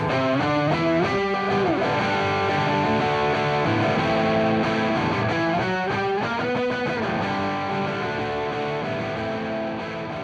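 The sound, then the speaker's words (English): Heavily distorted electric guitar strums thick, chunky chords in a steady rhythm during a song's chorus, loud with no voices, the fuzzy tone sustaining dense harmonics throughout. “And so, you know, during the chorus, I'm playing those chunky chords. And then during the solo, forget the chords, I'm playing the melody.”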